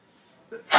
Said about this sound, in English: Bless you.